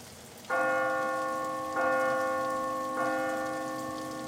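A deep, resonant door bell at a huge old house rings three times at steady intervals, each clang overlapping the lingering hum of the last, loud with no voices.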